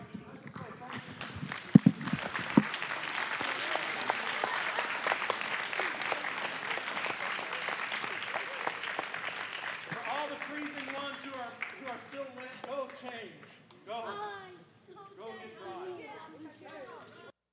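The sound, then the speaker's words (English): A church audience claps steadily as a praise offering to God in a dense, sustained burst of applause for about ten seconds, then the clapping fades as a single voice begins speaking. “Now, we're going to have our offering right here, but I thought we might just offer God a bit of praise and thanksgiving just by showing God praise, telling Him thank you, giving Him a clap offering, whatever it is.”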